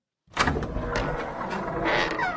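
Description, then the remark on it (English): A door rattles as someone runs into it, giving a few knocking jolts over a continuous scraping, rumbling noise that lasts about two seconds, loud, with no voices. “Someone run into the door.”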